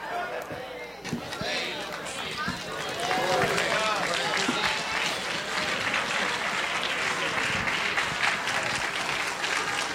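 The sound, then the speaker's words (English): A crowd claps steadily in praise of the Lord, the dense applause swelling louder after a few seconds and holding strong to the end, with voices faintly mixed into the noise. “Come on, clap some more.”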